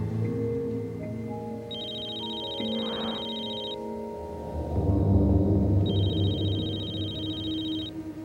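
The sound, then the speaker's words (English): A telephone rings twice, each ring a steady electronic trill lasting about two seconds with a pause between, heard clearly over a low background of music and room noise. “Pick up the phone. Aren't you going to answer it?”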